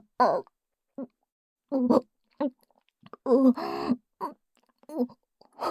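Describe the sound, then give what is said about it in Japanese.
A dog barks in irregular bursts, short sharp yelps mixed with a longer, howling whine, loud, with brief silences between calls and no talking. “やばい、吠えてる。”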